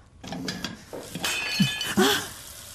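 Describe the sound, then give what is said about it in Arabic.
Plates smashing and shattering in a rapid series of sharp ceramic crashes, with bright clinking shards ringing out over nearly three seconds, loudest toward the end. “شو هيدي حفلة تكسير صحونة عملتيها يا مدام بيري؟”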